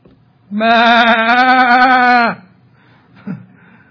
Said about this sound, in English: He says, "What is the bleating of this sheep I hear?" Oh, them. Well, the people wanted to keep them to sacrifice to God.